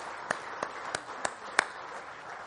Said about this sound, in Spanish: Vamos a darle un aplauso de alabanza al Señor.